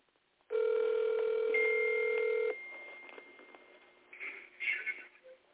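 An outgoing phone call from a radio show rings once: a steady, buzzy ringback tone lasting about two seconds, then quieter line noise with a few faint, brief sounds.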